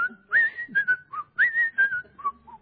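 Someone whistles a jaunty, familiar TV theme tune, two matching phrases of clear, bright notes with short breaths between them, and no talking.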